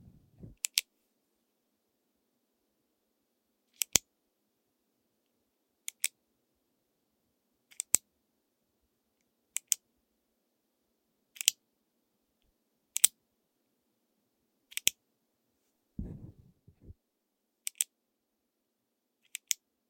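A ballpoint pen clicks repeatedly in quiet surroundings: sharp double clicks about every two seconds, with a brief soft rustle near the end and no talking.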